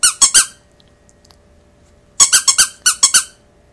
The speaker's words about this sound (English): What, you want me to read this one? No. This one has a squeaky book.